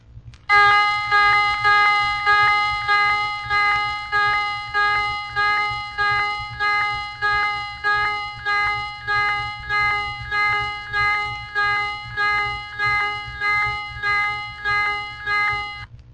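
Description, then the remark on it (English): A ship's general alarm, used in emergency calls, rings alone, a loud metallic electronic tone pulsing steadily about once every second without pause for the whole stretch, with no voices present. “First, the general alarm, optional in emergency calls.”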